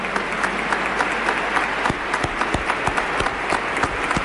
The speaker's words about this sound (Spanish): Acaba la missa amb aquest aplaudiment mentre un dels joves recull la creu que serà adorada pels qui puguin fer-ho i pels qui són aquí a la Basílica de Santa Maria del Mar